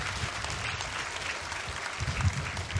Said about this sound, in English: Now, that deserves applause, absolutely.